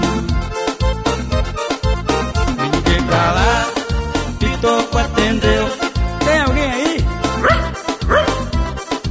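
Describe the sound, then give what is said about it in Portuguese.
A dog barks and yips several times, with some whining, mixed into a loud, steady, rhythmic music track that plays throughout. “emprestei o meu cachorro pra ver a confirmação.”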